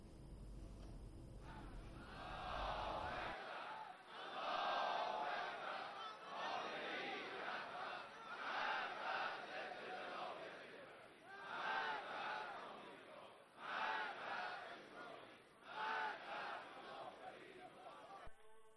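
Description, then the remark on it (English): A large street crowd of protesters in Iran chants loudly in rhythmic bursts, many voices shouting together with brief pauses between phrases, rallying to denounce desecration of sanctities and vandalism during riots, preceded by a few seconds of low rumbling noise. “A crowd of protesters are rallying to denounce the desecration of sanctities and acts of vandalism during the riots.”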